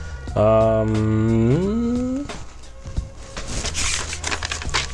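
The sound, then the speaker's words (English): A sustained humming tone glides upward and fades, then paper crinkles and crumples in a steady run of dry, crackly rustles through to the end. “It's paper.”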